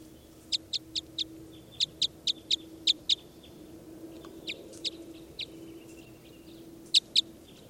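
A bird, being recorded as bird 396, calls in quick runs of sharp, high-pitched notes, bursts of four and six clipped chirps, then scattered single calls and a final pair, over a low steady hum and no talking.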